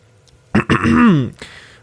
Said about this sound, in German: Ich räuspere mich, trinke einen Schluck Whisky und fange an.